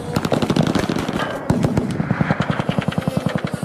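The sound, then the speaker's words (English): Rapid, overlapping gunfire rattles without pause as a group of men at a gun range in Arizona shoot at a drone, loud sharp cracks coming in quick bursts like several guns firing at once, with no voices heard. “This is video of a bunch of guys at a gun range in Arizona trying to hit a drone.”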